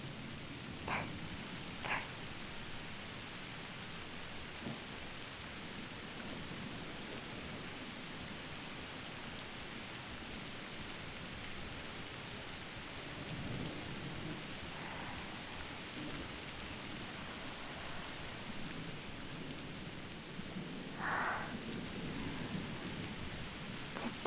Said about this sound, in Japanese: 何も考えずに雨の音だけ聞いていたいな。